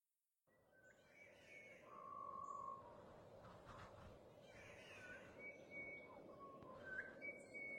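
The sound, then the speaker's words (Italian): Continuous bird chirping and whistling calls ring out over a dense, steady jungle hum, with several birds calling at once among the tree branches, some sharp, others fainter. “E questo cinguettio continuo? Oh, alzate lo sguardo, tra un ramo e l'altro.”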